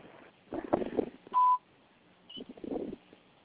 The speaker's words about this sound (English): Can't get to the phone right now. Please leave your name, number at the beep, and I'll get back to you as soon as I can.